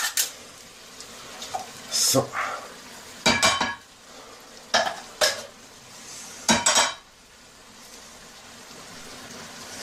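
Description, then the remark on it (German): A tin can, not paper or plastic, being handled: several sharp, bright metallic clanks and scrapes in irregular bursts over a low, steady background, with one short spoken word early on. “Das ist eine Dose und kein Papier und kein Plastik.”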